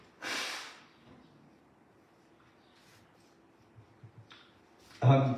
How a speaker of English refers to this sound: Sorry, I need to blow my nose.